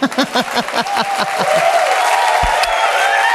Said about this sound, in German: Vielen herzlichen Dank fürs Zuhören und jetzt bitte einen großen Applaus